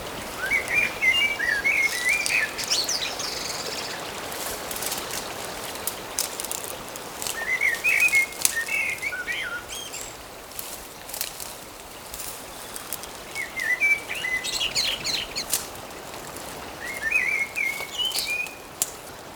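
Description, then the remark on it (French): Birds sing in short, warbling bursts that return about four times, clear, over a steady background hiss of sea waves. No one speaks. “L'écume des vagues, le chant des oiseaux.”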